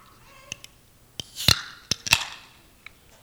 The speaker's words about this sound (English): Okay, now, I just taught you the correct way to open a can of Coke.